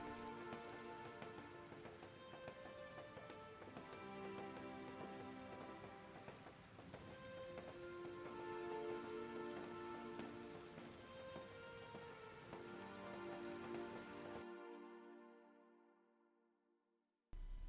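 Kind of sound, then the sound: nature, raindrops falling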